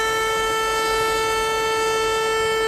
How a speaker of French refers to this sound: La sirène a retenti effectivement ce matin à Wieluń, petite ville de Pologne, où sont tombées il y a 80 ans, jour pour jour, les premières bombes nazies de la Seconde Guerre mondiale.